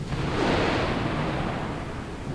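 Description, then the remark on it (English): A dense, steady roar of storm wind with a deep rumbling undertone like thunder, filling the whole moment without a break and with no voices. “Sounds like we're going to get some rain. The wind is whipping up, too.”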